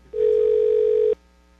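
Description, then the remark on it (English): A single steady electronic ringing tone over a phone line as a call rings through to a general manager, lasting about a second, then cutting off to quiet line hiss. No one speaks. “It's ringing someplace else.”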